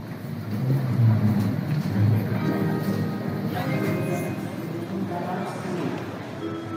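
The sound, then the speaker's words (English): Busy train station ambience at Prague's main station, with a steady low rumble of trains and machinery, while indistinct voices of a crowd murmur throughout, fairly loud and continuous. “The re-entry for Julie was almost spooky as she got off a train at Prague's main station.”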